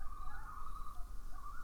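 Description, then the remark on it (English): A loon calls in the distance, heard from beside a sinkhole, one long, steady, mournful wail held on a single high note, faint against a low background rumble, with no voices. “And as I was listening to the distance, standing over the sinkhole, thinking about change and about death, I heard a loon calling somewhere in the distance.”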